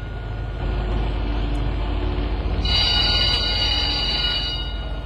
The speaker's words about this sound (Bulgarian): Хванал здраво куфара си, Емил се втурва през платното на улицата и успява да се качи в ремаркето тъкмо, когато трамваят потегля.